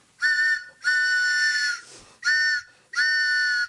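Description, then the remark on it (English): A train whistle sounds four loud, high-pitched blasts, alternating short and long with brief breaks between them. The tone is steady and piercing, with no voices. “Yes, and the train we want you to take is the WBAI pitching train.”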